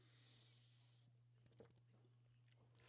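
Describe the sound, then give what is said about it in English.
Quiet sipping of Tecate beer, a few soft wet slurps and mouth clicks over a steady low electrical hum, with no one talking. “Let me take a sip of this fine Tecate.”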